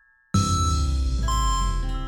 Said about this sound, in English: Sound the chimes, John!